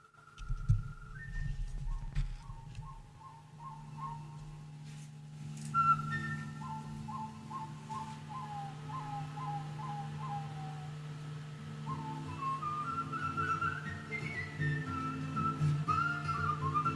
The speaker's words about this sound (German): Komm, wir pfeifen mit bis zum Schluss.